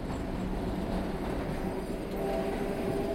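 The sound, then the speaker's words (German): A tram rumbles steadily through the winding inner-city streets of Antwerp, Belgium, a continuous low mechanical roar with faint squealing tones, sustained and fairly loud for the whole moment without any voices. “Dafür rumpeln Straßenbahnen durch die kurvige Innenstadt.”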